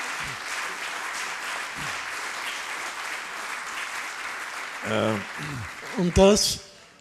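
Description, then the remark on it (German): A crowd claps steadily for the volunteers who prepared the event, in a dense, continuous patter of applause, with a few voices calling out near the end as the clapping rises briefly and then tapers off. “Man müsste wirklich hier diesen Menschen Tag und Nacht Beifall erzählen.”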